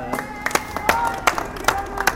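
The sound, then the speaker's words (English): A small group of people at the Rally of the 99%, organised with the Occupy Conference, claps for the rally's organiser in a loose, scattered round, sharp hand claps standing out from a steady patter, with a murmur of voices running underneath. “So yeah, she's done it pretty much single-handedly, so if people can give her a bit of a clap.”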